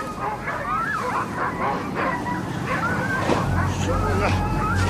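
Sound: dogs barking and whimpering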